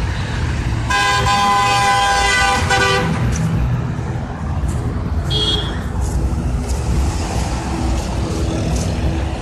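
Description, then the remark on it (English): A loud, sustained car horn blares for about two seconds amid steady traffic rumble, followed a few seconds later by a short, higher honk. “Honk for justice.”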